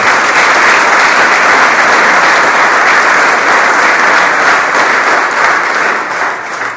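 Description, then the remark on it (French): A crowd claps steadily for the agents of the Argelès-Gazost sub-prefecture, in sustained, dense applause that stays loud throughout and begins to taper slightly at the very end, with no voices standing out. “Voilà, on peut les applaudir si vous voulez.”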